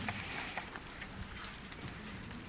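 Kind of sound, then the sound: household object, bible pages turning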